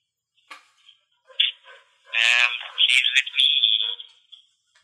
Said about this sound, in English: Is that your dog? Yeah, my dog is Pan.